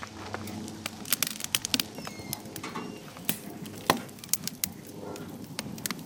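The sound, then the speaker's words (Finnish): Firewood being split for a grill: a series of sharp, irregular wooden cracks and snaps, with soft rustling between them and no voices. “Tässä on grilli, koska on aika halkoa pökköä pesää.”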